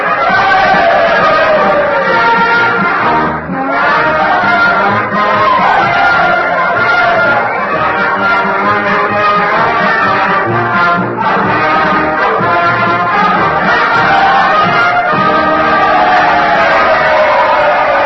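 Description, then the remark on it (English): A loud, dense crowd roars continuously after Mr. Lincoln has the Union Band play Dixie at the end of the war, with cheering and shouting swelling throughout, the din steady with only a brief dip partway through. “Well, I hope you can hear me above all this din. The crowd understands the meaning of Mr. Lincoln's request.”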